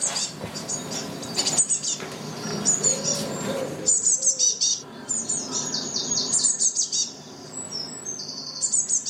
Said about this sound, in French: La mésange bleue est un petit passereau insectivore